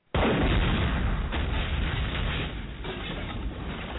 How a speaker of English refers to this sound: We might have to drop an explosion on that one right there.